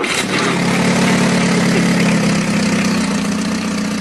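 The 760 cc, 35 hp engine of a Renault 4CV car idles steadily, a continuous throaty rumble with a faint rattling tick, loud and unbroken for the whole stretch with no voices.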